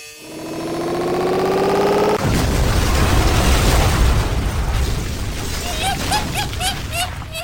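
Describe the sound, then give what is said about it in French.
A steady, humming chord gives way at two seconds to a loud explosion of a factory's manufacturing machines, blown up during the night, followed by rumbling, crackling debris noise as the fake pianos are smashed, and a few high whistling chirps near the end. “Pendant la nuit, les pianos avaient fait exploser les machines de fabrication et casser la totalité des faux pianos.”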